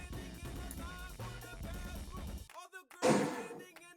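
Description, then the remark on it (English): Voices talk over a low background, then a sudden loud clatter of pots and pans banging together rings out in the background near the end, harsh before fading. “Yo, someone's banging pots and pans in the background.”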